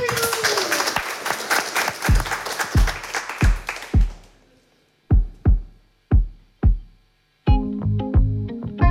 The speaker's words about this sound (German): Begrüßen wir Sie doch nochmal zurück auf der Bühne mit einem kleinen Applaus.